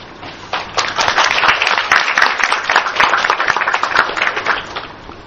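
An audience breaks into sustained applause, a dense wash of many hands clapping at a steady loud level for several seconds with no one speaking over it.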